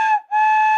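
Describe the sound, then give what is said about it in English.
A whistle from a loose bag of whistles is blown in two loud blasts: a short shrill toot, a split-second break, then a longer steady high-pitched tone. No voices are heard. “with a loose bag of whistles”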